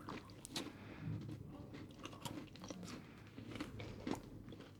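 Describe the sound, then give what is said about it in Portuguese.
Crisp crunches as someone bites into Galician donuts and keeps chewing, with sharp bursts repeating irregularly over a low, steady mouth noise and no talking. “Yo creo que sí, porque creo, o sea, es crocante, pero de una forma un poco diferente.”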